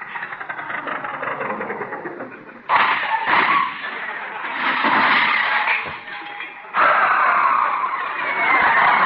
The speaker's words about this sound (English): I said the old truck's running pretty smooth.